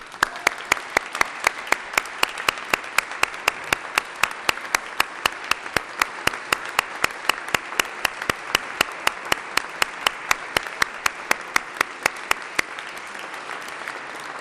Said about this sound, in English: I would ask for applause for that group.